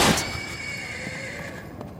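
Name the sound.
horse neighing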